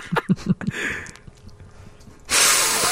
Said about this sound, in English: When you hear him inhale through one nostril, mm-hmm. You know, you hear that thing when he does that?